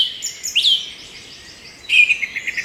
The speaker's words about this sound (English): For this next story, some bird songs are in order.